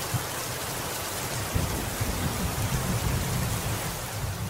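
Heavy rain pours down onto the sea, watched from the veranda of a guesthouse, in a dense, steady hiss, with a low rumble of thunder rolling faintly underneath. No voices, just the constant downpour.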